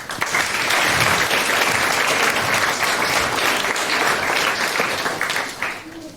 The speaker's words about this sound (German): Von daher einen großen Applaus zu Clean Air Everywhere.